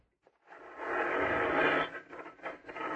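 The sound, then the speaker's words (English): A garage door rumbles and grinds open with a steady, scraping mechanical roar that starts abruptly, holds for a few seconds, then wavers unevenly near the end. No one speaks. “Go ahead, start the door.”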